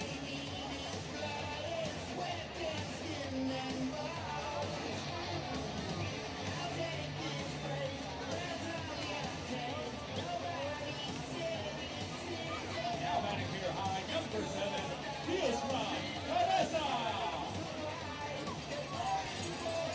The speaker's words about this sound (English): Bottom of the seventh at Valley Strong Ballpark. Lively crowd on this swell Saturday night.